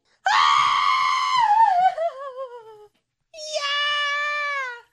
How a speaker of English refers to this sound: Someone texted in yesterday and was like, if we could not scream bloody murder after every scene, that'd be awesome. I'm like, it's literally part of the bit.